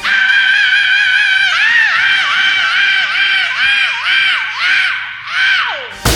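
A heavy metal singer holds one long, piercing high scream, steady at first, then wavering in repeated pitch dips toward the end before cutting off. It stays loud and bright throughout.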